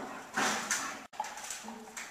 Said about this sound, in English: And eventually that wakes up a little dog.